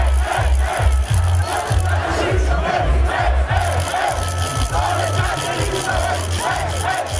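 A crowd of several thousand fans with flags chants loudly in unison "Kdo ne skače, ni Slovenc" with a steady, rhythmic cadence, backed by deep pounding beats, the massed voices continuous from start to finish, in the rain at Congress Square in Ljubljana, Slovenia, while watching a final.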